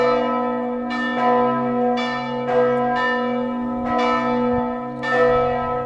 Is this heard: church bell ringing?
yes